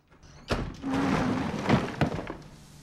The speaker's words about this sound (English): He enters the garage, turns on the light, and closes the door behind him.